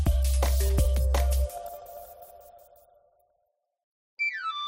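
A knife grinder's panpipe whistle melody, used in a radio advert for El Afilador orujo liqueur from Galicia, sounds at the end, a bright, high, breathy run sliding downward, after a few loud struck chime-like hits that ring out and fade to silence.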